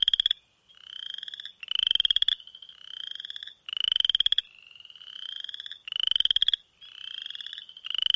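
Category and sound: animal, western chorus frog calling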